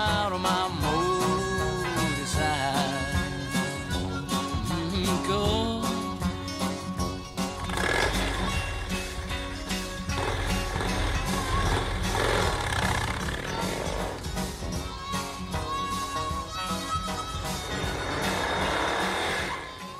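A folk song about riding a motorcycle plays loud and continuous, with dense strummed accompaniment and swooping, engine-like revving sounds rising and falling through the music.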